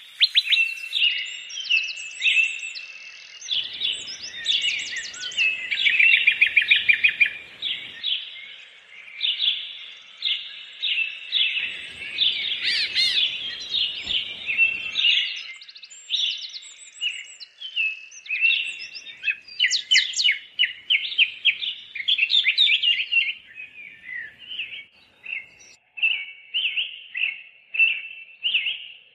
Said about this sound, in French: Alors, il s'agit du chant des oiseaux. Pourquoi avoir choisi ce son en particulier, Pascal ?